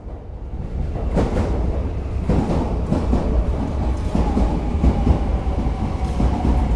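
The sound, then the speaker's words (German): A subway train rumbles steadily through a station in Buenos Aires, Argentina, at rush hour, with low continuous rolling noise, rhythmic clatter of wheels, and occasional brighter metallic bursts, loud throughout. “So liegen sie in den U-Bahn-Eingängen. Es ist Rush Hour in Buenos Aires.”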